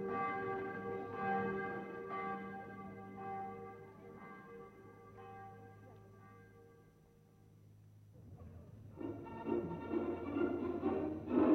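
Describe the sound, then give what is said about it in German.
Church bells ring out at 11 o'clock, the so-called civic ringing, in a steady, overlapping peal with rich sustained harmonics, easing briefly before swelling louder again near the end, heard alone without any talking. “Wird denn jetzt geläutet um 11 Uhr? Das ist das sogenannte bürgerliche Läuten.”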